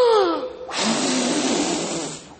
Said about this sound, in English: Now that we've practiced our breathing, I need you to take a deep breath and blow it out as hard as you can. All together.